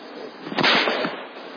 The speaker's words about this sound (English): The soldiers would take a whip. This is just a common bull whip. Nothing too powerful. But would you want to be hit by this?